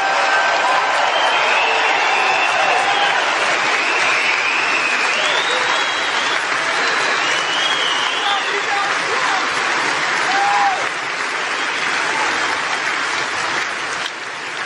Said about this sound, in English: And I know we have many veterans in the audience today, and we want to give them a big, big, beautiful round of applause.